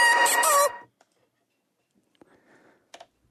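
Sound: rooster crowing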